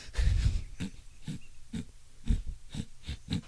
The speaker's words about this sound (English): Okay, now you're just breathing heavy through your nose.